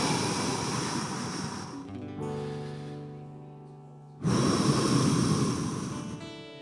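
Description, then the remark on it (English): Two long, breathy exhales, each lasting about two seconds, separated by a pause where a soft sustained musical tone hangs in the background. “So I'm just going to breathe out, if that's okay.”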